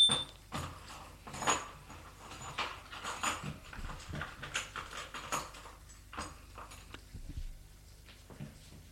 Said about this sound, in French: La porte s'ouvre